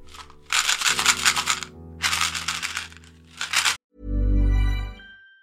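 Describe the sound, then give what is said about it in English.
A small box of chewing gum is shaken in three quick bursts, the pieces rattling loudly, followed by a brief deep thump-like tone. “So I'm going to shake these chewing gums and you're going to hear an advert for something.”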